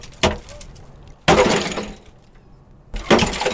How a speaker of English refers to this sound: The food I get from the shed and the water I get from a big metal rain receptacle. It was cold the night before, so there's a thick sheen of ice on the water. But the axe fixes that.